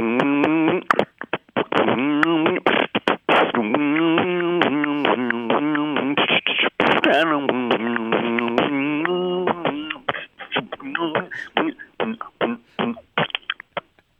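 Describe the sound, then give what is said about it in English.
A single voice hums the bouncy melody of "When the Saints Go Marching In" while punctuating it with rapid mouth-made percussion, clicks and kick-like thumps, for about ten seconds, then the humming stops and only scattered beatbox hits remain. “I can hum and beatbox.”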